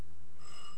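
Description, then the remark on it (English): A doorbell rings, its bright tonal chime starting about halfway through and holding steady, fairly soft over a constant low background hum, with no one talking. “Oh, that's the doorbell.”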